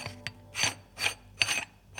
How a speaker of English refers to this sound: Running water and a squeak, squeak, squeak. Oh, that's my water bottle. I filled it up and the lid is pretty noisy. Here, listen.